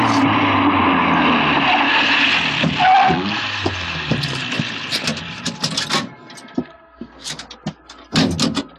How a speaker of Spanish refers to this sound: Un auto se detiene y Calimán se monta en él.